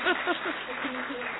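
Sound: clapping applause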